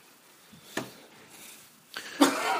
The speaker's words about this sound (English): He's got whooping cough.